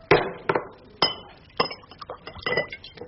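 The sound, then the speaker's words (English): A whiskey bottle clinks repeatedly against a glass, several sharp bright knocks spaced irregularly over a few seconds, moderately loud with no talking. “Well, if I haven't been drinking in my sleep, I think there's some whiskey left. Whiskey. Thank you, darling. Don't break the bottle. Or the glass.”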